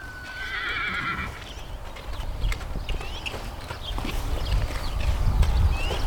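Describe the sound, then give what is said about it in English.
An Arabian horse in Arabian costume lets out a high, quavering whinny at the start, then its hooves clop in a quick, uneven prancing rhythm on the ground as it shows off its prancing, over a rumbling outdoor background. “Well, he's showing off how he prances.”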